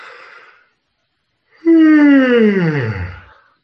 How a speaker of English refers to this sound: Oh, now you're making me want to yawn. Ah, here it comes.